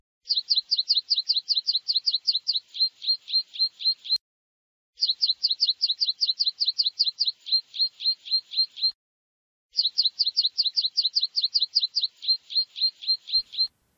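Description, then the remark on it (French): Woodlark, a small meadow bird, sings in three clear phrases, each a rapid run of bright repeated notes that slows into a looser trill, separated by short pauses, clean with no other sounds. “Ou plutôt vers le chant du turlut, une espèce de petit oiseau des prés.”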